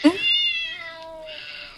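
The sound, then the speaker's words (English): A single furious cat meow played from a free cat piano app, loud, starting with a sharp yowl and stretching into a drawn-out, wavering cry that fades into a raspy, breathy tail. “Furious cat.”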